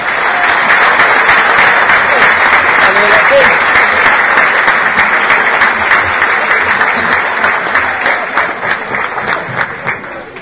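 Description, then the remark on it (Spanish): A crowd at a dinner breaks into sustained applause for the organizers and helpers, dense rapid clapping that stays loud for about eight seconds before thinning into scattered individual claps near the end. “los que han organizado y nos han atendido y han colaborado en esta cena, para los cuales pido un gran aplauso.”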